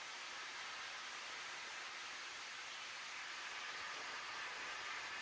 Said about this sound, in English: If any of you know why he hisses the steam out in front of it like that before he starts, I would like to know that. So you can talk to me afterwards. I don't know why they do that.